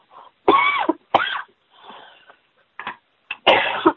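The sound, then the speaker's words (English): Several harsh coughs burst out in uneven succession, with raspy throat-clearing and strained breaths between them, as someone chokes on a peanut or something caught in the throat. “I got a peanut or something in my throat.”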